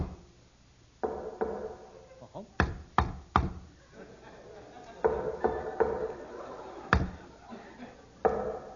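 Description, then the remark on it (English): A secret knock on the door of a house: sharp knocks in an irregular rhythm, a quick burst of three followed later by single raps, with people talking in between. “I shall now give the secret knock that only he and I know.”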